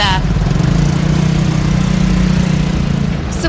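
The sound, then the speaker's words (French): Street traffic with buses and taxis on Oxford Street, London: a loud, steady low engine drone like a bus idling, holding an even rumbling hum throughout, with a brief brighter hiss near the end. “Vous voyez, il y a plein de taxis et de bus”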